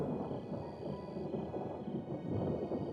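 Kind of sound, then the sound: nature, thunder rumbling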